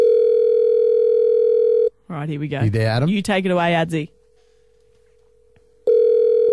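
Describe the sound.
A steady, mid-pitched telephone ringing tone of an outgoing phone call placed by a caller sounds loudly, fades low while a man talks briefly over it, then comes back at full strength at the end.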